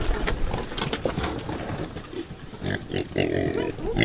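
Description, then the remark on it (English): Several pigs grunt and snuffle, a busy overlapping chorus of low snorts with a few louder squeals toward the end, as the animals eagerly feed on composted vegetables. “And she's as happy as her pigs in mud, or in this case, composted vegetables.”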